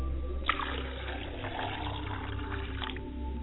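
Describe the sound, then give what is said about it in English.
Water is poured as a libation for the speaker's mother's side of the family, pouring and splashing steadily for a few seconds with a brief sharper splash near the start and a low continuous hum underneath. No one speaks. “and I say, Ashe, and I'm pouring the libation for my mother's side of the family, Ashe.”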